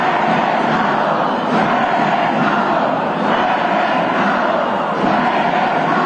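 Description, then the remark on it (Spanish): A large crowd marching along Eje Central in the annual march against violence chants slogans in unison, such as 'this day is not forgotten' and 'they took them alive, we want them alive'. It is a dense, loud roar of many voices that swells and dips in steady waves without pause. “A lo largo de Eje Central, las consignas una y otra vez repetidas, este día no se olvida, libertad a los presos políticos y vivos se los llevaron, vivos los queremos.”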